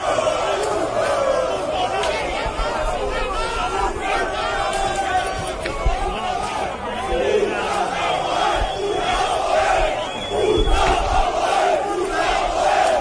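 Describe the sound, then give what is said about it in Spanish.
Rowdy APOEL Nicosia football fans clashing with Ertzaintza riot police outside San Mamés stadium in Bilbao: a dense, continuous roar of many voices shouting and yelling at once, loud throughout, with sharper cries rising out of the din. “este es el sonido que se escuchaba hoy a las puertas de San Mamés de enfrentamientos de los seguidores del Apoel de Nicosia con la Ertzaina.”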